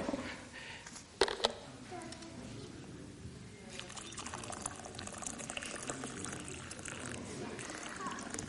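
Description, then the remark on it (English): Water pours steadily into a teapot to make British-style tea, a continuous splashing trickle that follows a brief sharp clink early on, with faint voices in the background. “So, first of all, you put, like, your water, all right? And then in a teapot.”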